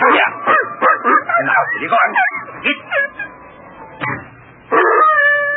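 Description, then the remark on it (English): An old hound dog howls and whines at night in a run of wavering, pitch-bending cries, trailing off into a quieter stretch before a loud, sustained howl rises at the end. “Now lie down. Chicken-hearted old hound.”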